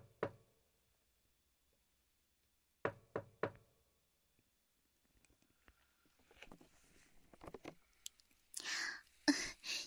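A single knock on a door, then after a pause three quick, sharp raps, followed by shuffling, clattering movement and louder rustling noise.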